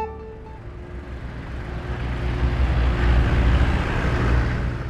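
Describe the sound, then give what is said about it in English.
A steady, dense rumble of many car engines idling and creeping bumper to bumper along a completely blocked eight-lane highway, low and continuous, swelling slightly midway, with no voices. “A seemingly endless convoy of cars sits banked up, bumper to bumper.”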